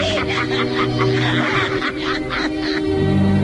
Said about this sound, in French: Pour vieillir ma voix, un caquet de vieille mégère.